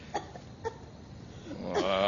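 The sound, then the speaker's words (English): A woman coughs behind a door, with smoke coming out: two short, muffled coughs spaced apart, followed by a longer strained, voiced cough-like sound at the end. Fairly faint. “Jiminy, I hear a dame coughing.”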